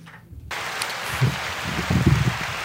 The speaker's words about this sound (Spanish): pero antes, aplausos.